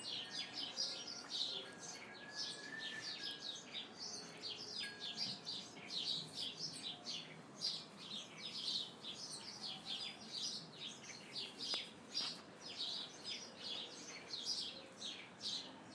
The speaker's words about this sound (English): if you could tell me what kind of birds those are.